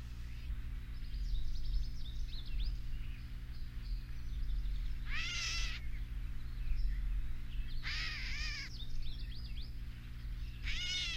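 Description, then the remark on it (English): A gray catbird gives two loud, cat-like mewing calls, one near 5.5 seconds and another near 8 seconds, with fainter chirps scattered between over a low steady background hum. “The catbird, of course, gets its name from a call that it makes that sounds like a cat.”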